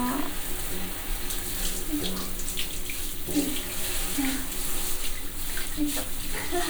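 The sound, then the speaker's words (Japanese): Hot water runs steadily from a tap in a continuous, hissing stream while a person is being washed, with faint splashing changes throughout and occasional soft voices underneath. “お湯の温度どうですか？”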